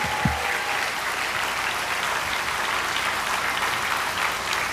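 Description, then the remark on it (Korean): Steady audience applause for a bass singer's performance fills the whole stretch, a dense, even wash of many hands clapping at constant loudness with no voices standing out. “더 걸려서 이렇게 박수 한 번씩.”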